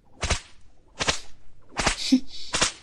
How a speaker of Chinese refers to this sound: 所以你要记住，现在打在你身上的每一鞭子都是姐姐对你满满的爱，知道了吗？